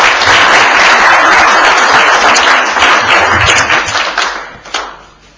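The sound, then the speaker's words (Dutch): A room full of people at a Dutch naturalisation ceremony applauds loudly and steadily to confirm the granting of Dutch citizenship, dense clapping that holds for several seconds before thinning out and fading at the end, with a faint voice briefly audible. “En ik zou u willen vragen dat met een applaus te willen bevestigen.”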